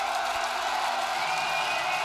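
A large crowd at a concert at the Ninkasi Ko in Lyon roars steadily, cheering and applauding the band, a dense wash of cheering and applause that stays loud and unbroken, with scattered whoops rising out of the noise.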